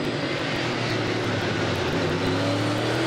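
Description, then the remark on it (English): A steady, loud roar of stock car engines fills the air, a dense pack of motors droning together with a slightly rising pitch as the cars accelerate on the final white-flag lap of the Clash at the Coliseum, a quarter-mile track inside the Los Angeles Coliseum, Joey Logano leading Kyle Busch. “White flag, one lap to go.”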